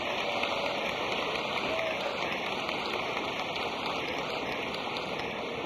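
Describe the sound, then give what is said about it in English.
Steady, dense applause from a massive audience in a large, impressive building, greeting a speaker: a continuous wash of clapping that holds at an even, fairly loud level throughout with no voices rising above it. “Thank you very much, friends, for your applause.”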